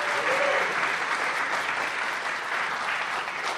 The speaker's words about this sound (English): And if you are happy to be alive and happy for another year, why don't you give God a clap for that?